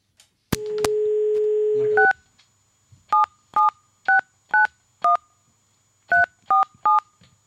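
A handset clicks, a steady dial tone hums for about a second and a half, then nine short touch-tone keypad beeps follow in two quick bursts, clear with no talking.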